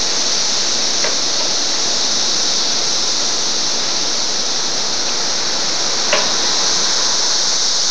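A dense chorus of cicadas flying around outside drones without a break, picked up by a tape recorder on a windowsill. A loud, high-pitched hiss-like buzz holds steady for the whole stretch, broken only by a couple of faint brief clicks.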